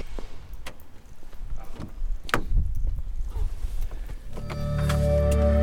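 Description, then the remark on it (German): A car door slams shut with a solid thud after a few small clicks and rustles, then the car's engine starts up and settles into a steady hum as the driver sets off. “Also, Tür zu, los geht's.”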